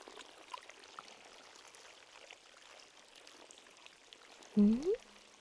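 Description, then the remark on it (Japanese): Soft, steady trickling of fresh spring water welling up from the bottom of a brackish lake, a continuous low gurgle, with a brief murmured voice near the end. “ああ、湧き水の音のことね。この湖はね、汽水湖なのよ。湖底から真水がたくさん湧いているのよ。”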